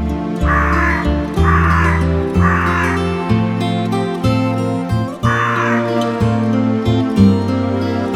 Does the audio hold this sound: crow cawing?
yes